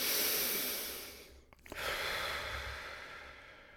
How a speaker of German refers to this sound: Ich schnaufte tief ein und aus.